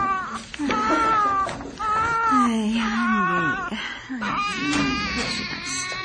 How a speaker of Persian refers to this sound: بچه چرا گریه میکنه؟ نمیدونم چشه.